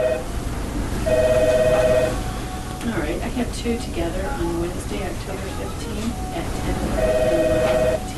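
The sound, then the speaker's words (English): An office telephone rings twice at the Rantoul Dental Office, each ring a steady electronic trill about a second long, with a muffled voice talking in the gap between the rings. “a typical Monday morning at the office means answering a constantly ringing phone.”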